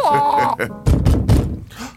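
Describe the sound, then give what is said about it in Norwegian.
A brief voice gives way to three heavy, dull knocks on a door in quick, even succession, followed by a faint trailing sound. “Ja, la meg gå og lukke opp døra.”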